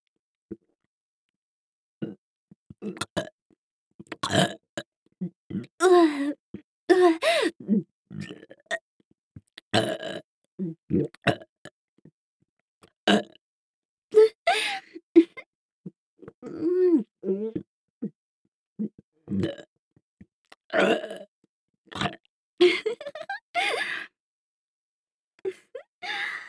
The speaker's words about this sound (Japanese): 次は、こっち。耳元ゲップ、失礼しまーす。